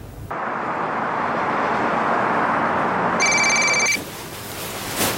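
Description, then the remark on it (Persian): A single short electronic telephone ring, a bright steady tone, sounds over a constant loud hiss of background noise, then cuts off abruptly. “خب ماما جان بلند شو ببین کیه. وا خجالت بکش. ارغوان گوشی”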